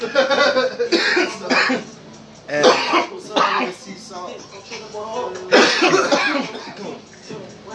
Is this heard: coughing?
yes